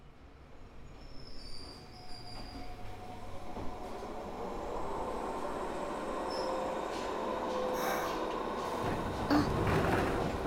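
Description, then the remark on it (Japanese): A train pulls into a station, its steady rumble swelling louder as it nears, with thin metallic wheel squeals rising toward the end as it slows. No one speaks. “電車来ちゃった。”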